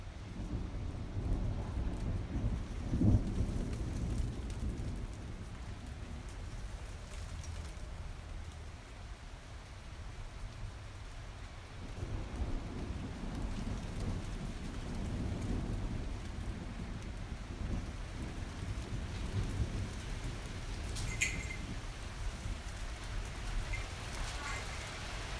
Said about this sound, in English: I think the rain is coming now.